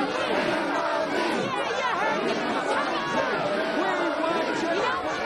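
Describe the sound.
A dense, chaotic crowd of adults talking and shouting over one another, a steady loud babble of overlapping voices with scattered raised cries throughout, an unruly neighborhood crowd at a Christmas spirit competition on Evergreen Lane.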